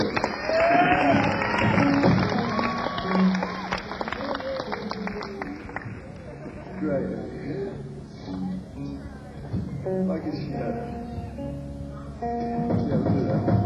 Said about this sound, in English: How about a round of applause for our drummer